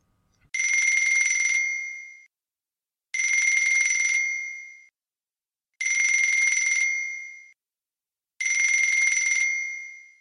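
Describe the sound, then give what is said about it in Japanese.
A mobile phone, left behind on a living-room sofa, rings four times at a steady, even pace, each bright electronic ring holding briefly before fading. It sounds clear, with silence between rings and no one talking. “リビングのソファーで鳴った。忘れていったらしい。”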